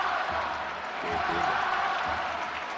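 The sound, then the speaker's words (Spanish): A dense, steady roar from a large stadium crowd at a Spain national team match, with massed voices rising into a rhythmic chant of the name of Spain captain Morata that swells slightly midway before holding level. “Oye lo que grita el campo.”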